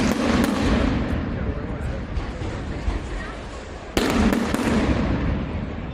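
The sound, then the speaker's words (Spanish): Loud firecracker blasts at the start of a Valencian mascletà, fired seconds apart: two sharp bangs roughly four seconds apart, each followed by a dense, crackling rumble that slowly fades, with faint crowd noise underneath. “Bueno, así comenzaba vuestra mascletà de ayer con esos petardos que se iban disparando con unos segundos, ¿no?”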